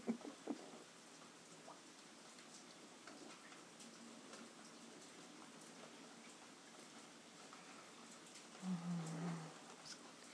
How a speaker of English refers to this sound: Last time it rained this heavy, the guttering overflowed.